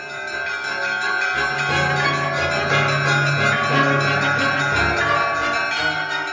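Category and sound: signal or alarm, church bell ringing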